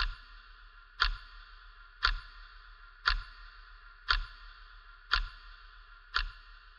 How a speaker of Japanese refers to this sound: 私の声があなたの中に十分染み入ると、どこからか時計の秒針の音が聞こえてきます。